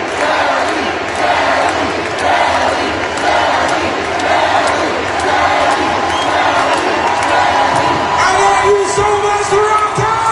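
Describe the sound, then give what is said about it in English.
A huge sold-out concert crowd at Scotiabank Arena on a Saturday night roars and cheers continuously, a dense wall of voices with shouts and whoops rising throughout, loud and sustained for the whole stretch. “Here's a bit of the crowd.”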